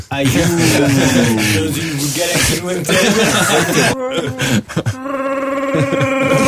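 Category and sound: vocal imitation, person imitating snoring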